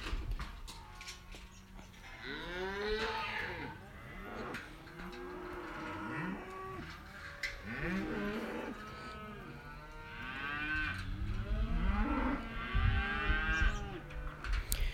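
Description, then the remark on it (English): Several cows moo repeatedly at a country vacation home, their long, overlapping calls rising and falling one after another, with a busy outdoor background and no talking. “Today's Monday, April 18th, 2016, and as you can hear, I'm down in our country vacation home, and once again, they're doing something with cows.”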